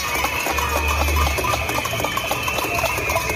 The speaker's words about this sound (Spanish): Son enfermeros y técnicos en cuidados auxiliares que han exigido así, con cacerolas, el cese de la dirección de enfermería por la mala gestión, y es que no hay personal suficiente.